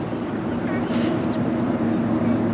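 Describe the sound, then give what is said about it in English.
The engine of a 56-foot boat drones steadily and loudly as it cruises through the bay toward the Golden Gate Bridge, a continuous low rumble with a faint rush of wind and water over it. “We board the boat, a 56-foot vessel affectionately called the Salty Lady. And soon enough, we're cruising through the bay with the city at our backs and the Golden Gate Bridge looming large in front of us.”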